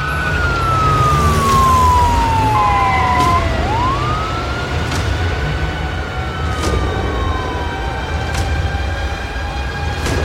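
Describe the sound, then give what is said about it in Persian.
Police sirens wail with long rising and falling sweeps over a loud, steady rumble of police cars pulling away as officers drive out of the police investigation bureau. Occasional sharp clicks punctuate the noise, and no one speaks. “رسول با بقیه مامورا با ماشین از آگاهی بیرون میره.”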